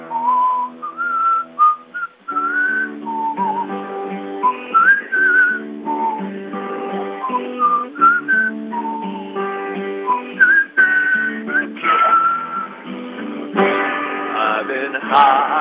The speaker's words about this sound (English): Oh, how I whistle, how I whistle, how I whistle loud so the neighbors hear. I want to sing about how I whistle, oh, how I whistle loud so the neighbors hear me.